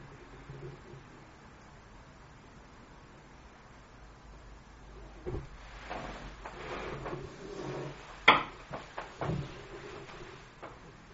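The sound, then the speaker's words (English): A door opens and shuts: a soft creak and shuffle, then a sharp clunk followed by a couple of lighter knocks, with no one speaking. “I thought he walked through the door.”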